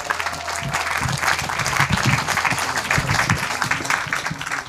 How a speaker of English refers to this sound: Can we give them a round of applause before they begin?